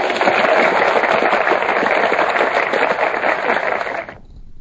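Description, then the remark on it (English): A loud, dense burst of clapping and cheering from a group, sustained steadily for about four seconds before cutting off abruptly into quiet. “Clap, make noise, shit like that.”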